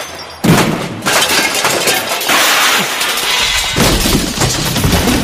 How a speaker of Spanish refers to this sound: ¡Qué maravilla! Acaba de cargarse el pebetero. Acaba de cargarse el pebetero de un martillazo.